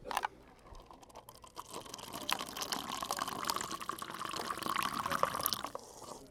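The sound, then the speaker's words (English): Steeped red tea being poured into cups: a steady splashing stream with a ringing pitch that builds as the cup fills, preceded by a couple of brief clinks, with no talking. “Okay, I think it's time to pour. Yeah, that thing's been steeped enough.”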